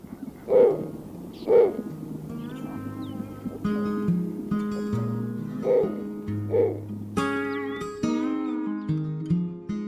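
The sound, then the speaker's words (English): Four short, hoarse snowy owl hoots come in two pairs, the first two early and the next two midway, over a steady bed of sustained musical chords with no talking. “thank you so much for enlightening us about the snowy owl.”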